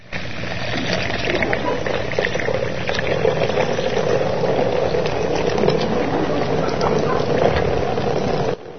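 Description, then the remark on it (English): Liquid pours steadily into a cracked pot, a continuous splashing gurgle that runs for about eight seconds before cutting off abruptly. No one speaks. “about 30 seconds after we got done pouring into this person's life that has incredible issues of brokenness all over it”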